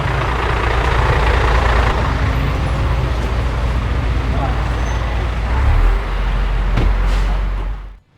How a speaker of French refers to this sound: Ouais, on va se faire écraser par un camion.